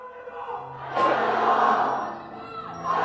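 A large crowd of Chinese people, in a film scene, shouts "Long live democracy!" together in a loud, swelling roar that surges after a moment, holds, dips slightly and rises again, with many voices blending into a chant-like clamor.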